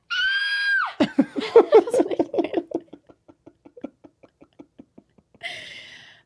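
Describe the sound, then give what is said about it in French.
A person lets out a loud, high-pitched scream imitating surprise at seeing someone they were not supposed to see, then breaks into a run of breathy laughter that fades into short gasps, followed by another brief shriek. “Oui, je crie, mettons, je sais pas, je vois quelqu'un que j'étais pas supposé voir, là, je fais...”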